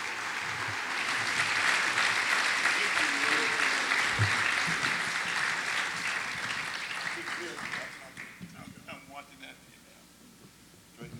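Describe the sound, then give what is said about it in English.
Sustained applause from a sizable audience welcoming people to the stage, a dense wash of clapping that holds steady for about eight seconds before thinning out, with a voice beginning to speak as it fades. “Come on, folks, give them a round of applause.”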